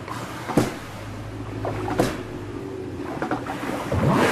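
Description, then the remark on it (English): A male walrus in full song slaps his flippers together while also knocking, with air bubbles seeping from his mouth and nose, producing a few sharp, loud clapping smacks spaced irregularly over a low, steady watery rumble. “He slaps his flippers together.”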